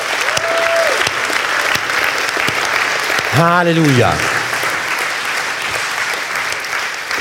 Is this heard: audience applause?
yes